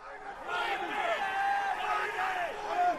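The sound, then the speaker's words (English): A dense crowd of oil futures traders in the trading pit at the New York Mercantile Exchange shouting numbers over one another, with voices rising and falling in pitch as individual yells cut through a constant, loud roar of overlapping calls. “That's the din at the pit at the New York Mercantile Exchange, where they trade oil futures, screaming numbers that determine all kinds of things in our reality, prices of fuel, cost of medicines, chemicals, foods.”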